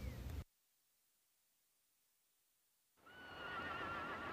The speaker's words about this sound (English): The horse runs around and lays down and rolls around. And the words on the screen say, how nice is the sound of a horse passing by. And then the horse lies down.